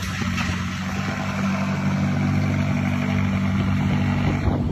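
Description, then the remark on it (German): A McLaren sports car engine rumbles steadily, a deep continuous drone with strong low harmonics that swells slightly as the car drives out and pulls away, with no talking. “Der die Karre da rausfährt. Ist doch egal. McLaren.”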